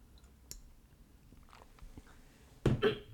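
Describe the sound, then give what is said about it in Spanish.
Someone takes a quick sip of water: soft mouth clicks and small wet noises, then a louder swallow or gulp near the end, with no talking. “Bueno, voy a beber un poquito de agua porque si no voy a estar tosiendo todo el rato.”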